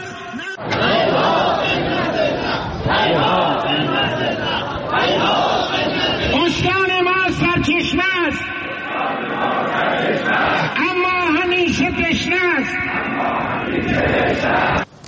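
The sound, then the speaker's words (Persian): A large crowd of hundreds of residents of Saman, Chaharmahal and Bakhtiari province, Iran, chants loudly and continuously in rhythmic, shouted unison at a Tuesday rally protesting plans to transfer Zayandeh Rud water, with voices rising and falling in repeated phrases over a dense roar of many people. “بر اساس فیلم‌هایی که در شبکه‌های اجتماعی منتشر شده، تجمع کنندگان اعتراض خود را به طرح‌های انتقال آب زاینده رود اعلام کردند.”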